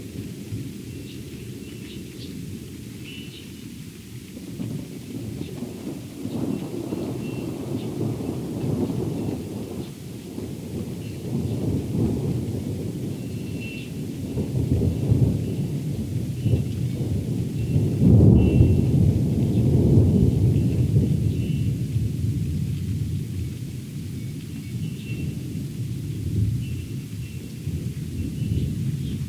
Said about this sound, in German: Also das Gewitter ist jetzt über uns rübergezogen schon. Den Anfang, das erste Donnergrollen, bevor es kam, das konnte ich nicht aufnehmen. Aber jetzt hört ihr sozusagen noch die Nachwehen.